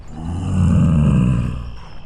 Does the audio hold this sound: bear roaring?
yes